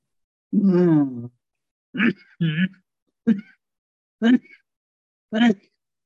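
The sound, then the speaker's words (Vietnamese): Someone coughs hard in a series of six loud bursts: a longer, rough, throaty first one, then five short, sharp coughs spaced unevenly apart, with no talking in between. “Ủa, ai? Ai ho dữ vậy?”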